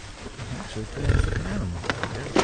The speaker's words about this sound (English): He's a mature bull. He's lying on his side in the middle of a huge frozen swamp. He's blindfolded to make the process less stressful. He seems to snore while the biologists poke and prod. Sounds pretty peaceful, doesn't it?